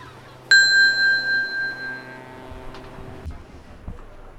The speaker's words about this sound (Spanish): ¡El teléfono! ¡Tráeme el teléfono!